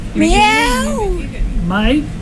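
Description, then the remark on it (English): A person imitates a cat, giving two drawn-out meows with rising and falling pitch, the first long and the second shorter, fairly loud over a low background hum. “does anyone want to make any more animal noises or talk about an animal? I like that. Yeah, do you want? Meow.”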